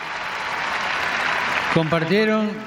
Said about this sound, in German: Also, das war doch toll. Die verdienen einen Applaus. Danke.